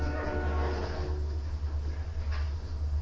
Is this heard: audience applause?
no